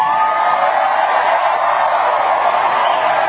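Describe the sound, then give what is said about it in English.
A crowd shouts and cheers, drowning out a man's speech, in one continuous, steady roar of many voices, loud throughout with no single speaker standing out. “Once the people shouted, overruling his conversation, his speech, to fuel the nationally inquiring minds that needed to know.”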